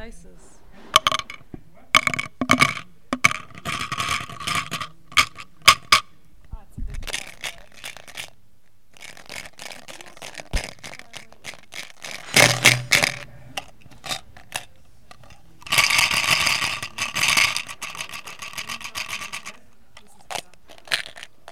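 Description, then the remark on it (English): Dice clicking and clattering: scattered sharp taps as they're handled, then several louder rattling bursts as they tumble and roll across a hard surface. “I'm introducing the dices.”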